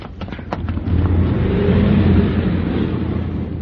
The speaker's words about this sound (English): Hey, look out. Here comes a car. Run.